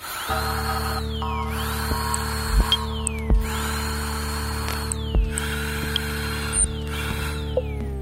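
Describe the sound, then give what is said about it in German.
A dental turbine drill whines in repeated high-pitched bursts, rising and falling about four times, over a steady low mechanical hum with occasional sharp clicks. No one speaks. “Das kriegt man, das ist ein moderner Neubau, sodass die Türen sind relativ dicht, aber man hört schon ein bisschen was, wenn man die Turbine anhat.”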